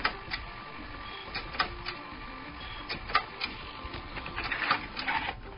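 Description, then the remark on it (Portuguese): An Iomega Zip drive clicks mechanically, a series of sharp, irregular ticks and clacks over a steady whirring hum, growing busier toward the end, with no one speaking. “Não, mas ele não fazia o clac, clac, clac, clac. É, ele fazia um...”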